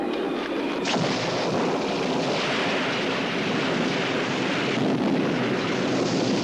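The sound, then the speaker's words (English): A loud, sustained roar of crashing thunder from a violent summer storm, with a sharp crack near the start, rolling on continuously. No voices are heard. “It was a violent summer storm.”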